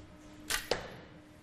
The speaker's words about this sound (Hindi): देखना यह है कि आखिरी तीर के साथ ये क्या करते हैं। वक्त भी खत्म हुआ चाहता है और आखिरकार पांचों तीर हदफ तक पहुंचे हैं।